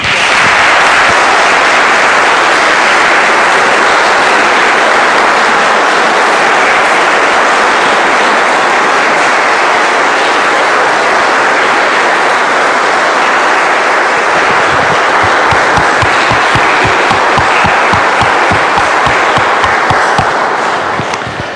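A big crowd applauds loudly and steadily for about twenty seconds to reward a woman for her testimony, a dense wash of clapping that turns into rhythmic, in-unison claps near the end before fading.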